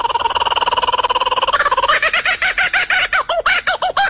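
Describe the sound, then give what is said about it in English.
A laughing kookaburra call: a rapid, rolling chuckle that builds into loud, rhythmic hooting cackles, repeated quickly with no one talking. “No, that is a bird. Damn it! That is the laughing kookaburra.”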